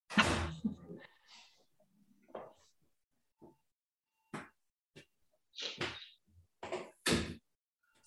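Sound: door being opened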